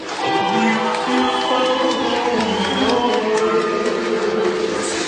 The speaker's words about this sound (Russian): Вот сейчас дайте аплодисменты.